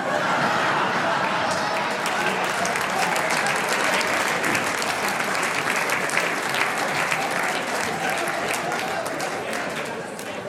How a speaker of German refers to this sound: Jetzt haben nur die Raucher geklatscht, gell?